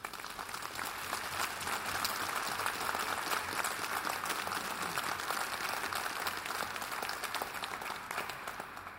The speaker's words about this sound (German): Ich glaube, einen kleinen Beifall können wir Ihnen heute Morgen schon schenken.